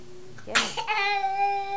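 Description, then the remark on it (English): A small child sneezes once, a short sharp burst, followed by a steady high-pitched vocal whine that carries on to the end. “Bless you.”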